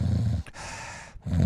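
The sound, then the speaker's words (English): A voice imitates a deep, rumbling nasopharynx snore: a low, rough growl-like inhale, a brief break into a breathy hiss, then the guttural rattle returns, loud. “Much deeper, more aggressive sounding.”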